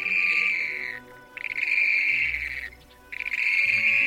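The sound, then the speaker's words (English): Waterbirds on the still waters of an alkaline lake call loudly in three long, shrill, buzzing bursts separated by brief pauses as they approach one another to mate, with no talking. “On the still waters of an alkaline lake, they call loudly and approach one another.”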